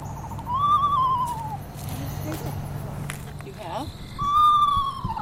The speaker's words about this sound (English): I play a recording of a screech owl.